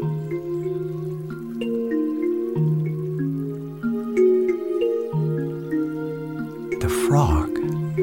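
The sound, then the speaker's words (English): A single wet plop of water as something jumps into a pond lands near the end, short and fairly loud, over steady droning musical tones that hold throughout. “Jumping into the pond. Plop!”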